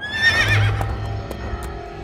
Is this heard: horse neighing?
yes